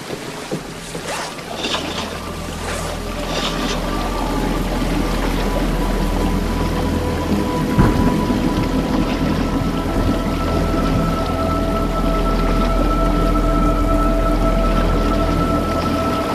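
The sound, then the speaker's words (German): Heavy rain pours steadily onto a boat as a storm breaks, a dense hiss of drops drumming on hard surfaces, with a low engine-like rumble and occasional thunder underneath. No one speaks. “Wir brauchen Regenmäntel, sonst sind wir die ersten Menschen, die immer Wasser ertrinken.”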